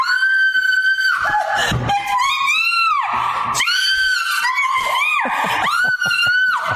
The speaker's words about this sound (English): This is my wife reacting to a cricket she thought was a spider.